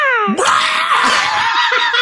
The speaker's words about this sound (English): Falcon. That was a falcon call. He's a falconer.